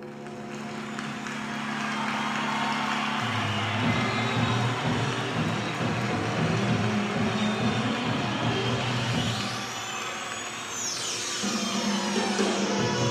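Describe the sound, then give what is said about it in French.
A synthesizer line played on the instrument's ribbon controller, its pitch gliding smoothly up and down in sweeping arcs over a dense, sustained electronic backdrop with shifting low tones; no one speaks. “Il utilisait le ruban, le son glisse, parce qu'il y a un ruban.”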